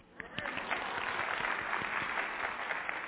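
A crowd of women answering a speaker's question by applause breaks into steady clapping, many hands at once in a dense, continuous wash that stays fairly loud for the whole stretch, with no talking over it.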